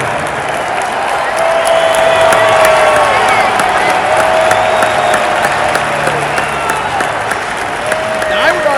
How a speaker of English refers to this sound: Mostly cheering. Would you not say? That sounds like all cheering. Yeah, all cheering.